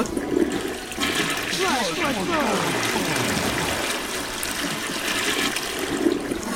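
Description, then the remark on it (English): A toilet, Flushy the Twim toilet, flushes with a loud, steady rush of water that swirls and gurgles for several seconds, a falling whoosh sweeping through the middle of the flush. “flush ourselves there with Flushy, the Twim toilet.”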